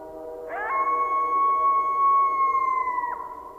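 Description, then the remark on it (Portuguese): A coyote lets out one long, clear howl that rises sharply, holds a steady high pitch for a few seconds, then drops off at the end, heard alone. “O coiote.”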